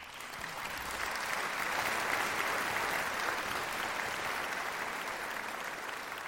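applause sound effect

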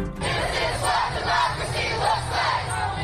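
protest crowd chanting

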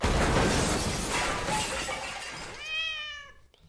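door being broken down

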